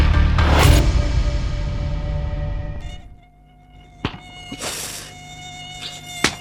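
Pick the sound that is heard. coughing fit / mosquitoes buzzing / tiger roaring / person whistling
mosquitoes buzzing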